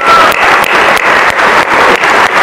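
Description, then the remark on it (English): A large audience at a dinner in New York claps for Al Smith in a dense, sustained wave of applause, loud, with no voices rising above the clapping. “And I think we all owe Al Smith a great, great round of applause.”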